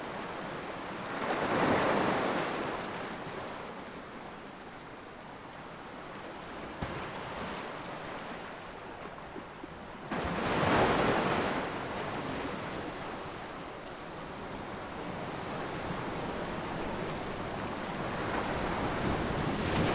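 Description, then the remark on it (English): Ocean waves roll in and break on the shore in steady washes, two fuller crashes swelling out of a constant hiss of surf, with some wind rumble and no voices. “Her healing waves, so soothing.”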